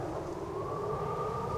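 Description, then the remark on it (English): A steady, high whistling wind moans on without a break over a low, rumbling roar, loud, its pitch slowly rising. “The winds begin to whistle.”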